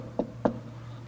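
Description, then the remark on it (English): Two sharp knocks on a door, evenly spaced a quarter second apart, over a low steady hum with no voices. “The devil will come and knock on your door.”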